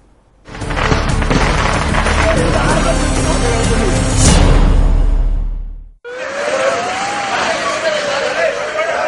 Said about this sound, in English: An unauthorized fireworks display at a temple festival that turned tragic, killing over 100 and leaving several hundred with injuries.